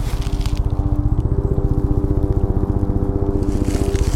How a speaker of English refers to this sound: I hear something. The tree is resonating the sounds of the park and the city. Helicopter in air, helicopter in tree.